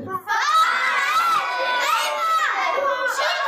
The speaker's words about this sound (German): Wir wollen eine Laola-Welle sehen. Wie im Fußball. Laola-Welle. Wisst ihr, was das ist? So, mach mal Laola-Welle. Und los, Laola-Welle mit Jubel. Und ruft Fußballsachen, ruft mal Foul.